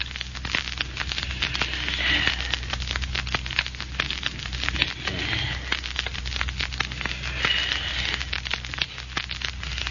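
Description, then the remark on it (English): A diamond on a ring scoring a glass window pane to break in, after the burglar alarm was cut: a steady, gritty, crackling scrape that runs without pause, with faint high squeaks now and then and no voices. “Take my ring and use a diamond on that window pane.”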